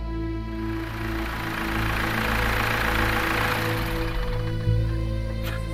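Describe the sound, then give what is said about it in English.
A car engine idles in a home driveway with a steady, low rumbling hum that holds even throughout, ending in a brief sharp knock or click. “I parked the car in the driveway and headed up the walk to the house.”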